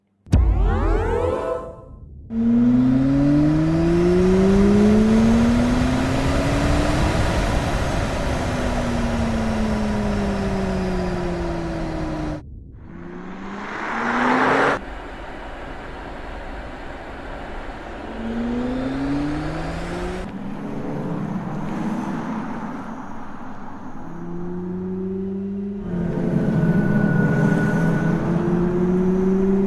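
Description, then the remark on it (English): A synthesized BMW electric-car driving sound: loud, futuristic tones that swell and glide up and down in pitch, like acceleration, played as several separate takes with abrupt cuts and no talking. “BMW actually hired Hans Zimmer to make a few sounds. And here's what they sound like.”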